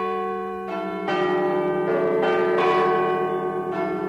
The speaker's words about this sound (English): What's that, Mum? It's Bradford City Hall Chimes. But isn't it a new tune?